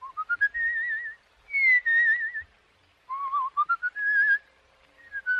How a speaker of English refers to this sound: You know, people fall asleep if you whistle that way.